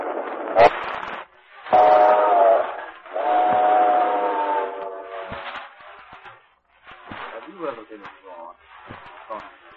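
A steam locomotive whistle wails in two long, steady blasts over the rumble of a train on the rails, followed by quieter, uneven clattering and hissing.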